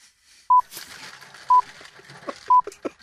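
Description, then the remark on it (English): The Greenwich time signal on BBC Radio 4's Today programme: three short, identical high-pitched pips, evenly spaced one second apart, loud and clean above a faint, murmuring background of other noise. “That's the Greenwich time signal”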